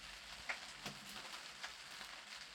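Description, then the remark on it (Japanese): Steady, soft rain falls at a nunnery with a continuous hiss, dotted with a few brief droplet taps. It is quiet and even throughout, with no voices. “こんな雨の中、尼寺に何用でございましょう。”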